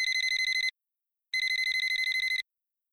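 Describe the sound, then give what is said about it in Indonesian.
A telephone rings in two bursts of rapid electronic trilling, a short one then a longer one after a brief pause, bright and clear with no one talking. “Bentar ya, ada telpon.”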